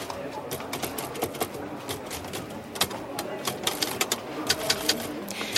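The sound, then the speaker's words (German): Rapid, uneven clacking of the keys of a typewriter on a table, sharp strikes tumbling one after another over a faint room murmur, with no talking. “Ist das Ihre Schreibmaschine da drüben auf dem Tisch?”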